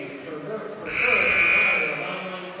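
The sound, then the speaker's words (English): A loud, steady arena buzzer at a basketball game between Hamilton and Allendale blares for about a second to end a 30-second timeout, over a murmuring crowd, then cuts off as the background chatter continues. “There's the end of the 30-second timeout.”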